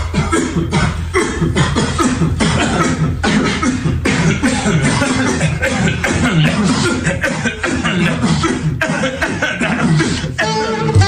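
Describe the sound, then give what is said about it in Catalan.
Repeated coughs burst out in quick succession over a steady, full musical backing, loud, some blending into chuckle-like sounds before a singer comes in; the opening of an Italian song about the coronavirus. “amb uns italians, en fi, amb uns italians que, tot i la situació que viu el país, tenen sentit de l'humor i creen una simpàtica cançó que, per cert, comença amb molta tos.”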